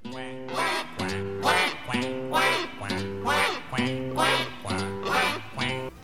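A duck quacks loudly and repeatedly, about seven harsh, nasal quacks in a steady rhythm, with no other sounds around.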